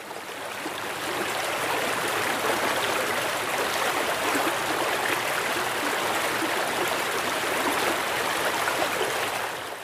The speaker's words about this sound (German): Manchmal kann ein kleines Gewässer auch schon die Grundlage für ein größeres sein, wenn du dir zum Beispiel mal das Wasserrauschen dieses kleinen Flusses anhörst.